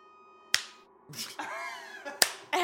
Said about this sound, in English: She's slow clapping you right now, jabroni.